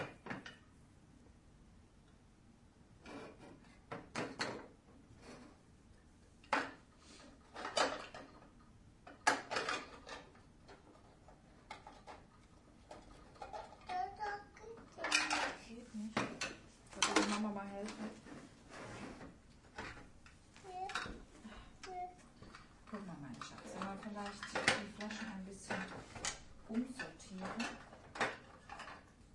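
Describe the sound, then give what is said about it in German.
A full kitchen drawer slides open and shut several times while metal utensils clatter and rattle inside as things are put away, fairly loud, with faint voices murmuring now and then. “Die Schublade ist voll. Musst du eine andere Schublade nehmen dafür.”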